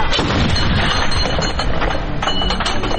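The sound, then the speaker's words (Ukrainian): Loud, dense bursts of heavy weapon fire from an armored vehicle shooting at training targets at a National Guard training centre in Ivano-Frankivsk Oblast, Ukraine, booming repeatedly over a rumbling engine with no pause across the few seconds, harsh. “Тут техніка стріляє виключно в тренувальних цілях.”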